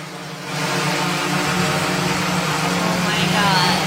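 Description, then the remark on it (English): A package delivery drone: a steady, droning buzz swells in after a brief moment and holds, a dense whir with a low hum underneath and a faint rising whine toward the end, much like a swarm of bees. “It's like a bunch of bees.”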